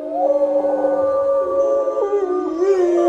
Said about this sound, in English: And from the back, way back in the back of the pen, we hear an owl coming back. When she howled, they immediately howled back.